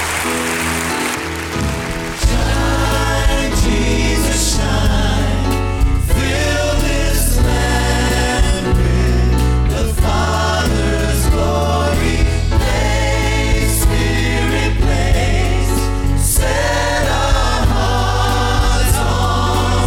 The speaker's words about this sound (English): Thank God with a clap offering. Would you just tell him thanks, Lord?